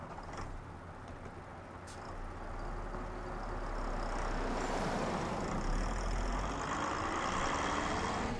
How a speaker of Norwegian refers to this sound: Snart var hun bare en haug med gamle planker. Plankene ble lagt på lastebiler og kjørt bort.